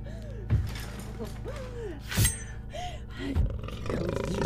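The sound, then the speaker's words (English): A very large mountain lion on the other side of a door roars and snarls in three loud, rough bursts spaced a second or so apart, with low growling and a rumbling backdrop between them and no one speaking. “On the other side of the door is a mountain lion.”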